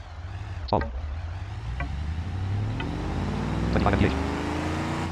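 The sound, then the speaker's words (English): A car engine drones steadily, its pitch shifting as the vehicle slows and eventually comes to a stop, with a few brief clicks along the way. “So when I start to slow down, and it'll eventually stop.”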